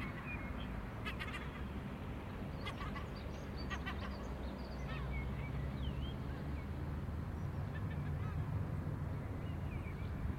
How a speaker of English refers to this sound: And the crows and the jackdaws are all moving about now. It's another wee flock of jackdaws.